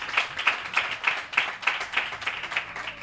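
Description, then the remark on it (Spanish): Steady rhythmic applause given in remembrance of and support for a family, with hands clapping together in an even beat about three times a second. It is moderately loud, with no voices over it. “hay que dar ese aplauso, ese recuerdo.”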